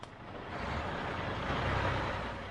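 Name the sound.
truck driving past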